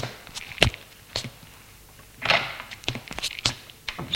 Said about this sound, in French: Tout à coup, elle entend une porte qui s'ouvre. Des pas dans le couloir. Autre porte qui s'ouvre et des pas dans le couloir.